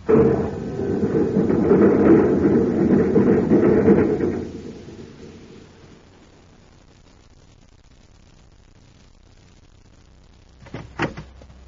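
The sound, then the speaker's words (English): The door of a small magnetic car, likened to a miniature spaceship, slides shut with a loud, rumbling whoosh lasting a few seconds, then quiet, followed by a brief sharp clunk near the end. No voices. “Shut the door and shove off.”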